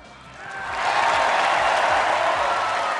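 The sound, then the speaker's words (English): A large crowd at the Republican convention breaks into loud applause mixed with cheering after Rudy Giuliani's line about victory, swelling over the first second into a dense, sustained roar of clapping with no talking over it. “Victory, a big applause line from his speech the other night.”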